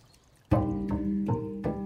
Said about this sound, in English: But inside the gardens, the noise stops. Not much other than the rustle of the wind and the soft pouring of a fountain disturbs a sit-down in the shade of a patio.